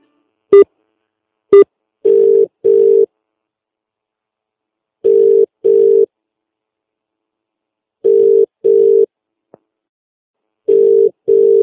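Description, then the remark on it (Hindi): Telephone call tones with no voices from a call being placed to a teacher: two quick beeps, then a steady tone repeating in tight pairs of buzzing pulses every few seconds, clear as if through the handset. “मैं अभी टीचर जी को फोन करती हूँ।”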